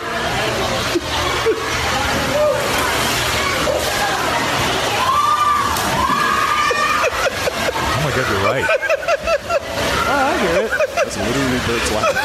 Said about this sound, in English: I like the way people start screaming though when the guy goes into the tank. That's kind of weird.